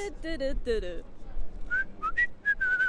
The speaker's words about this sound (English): How'd you do that? What did I do? Start whistling in a completely different key. How do you not do that?